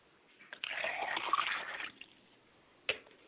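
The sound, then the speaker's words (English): Liquid is poured out as a libation for a father's spirit in a steady, splashy stream lasting just over a second, then stops; a single sharp tap follows shortly after. No one speaks. “I pour libations for my father's spirit, Obakala, and I say, Ashe.”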